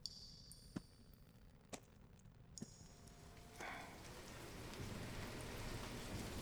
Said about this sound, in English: The winds have gotten stronger since we found you. And with the rain pouring down as it is, it's going to be very difficult to see.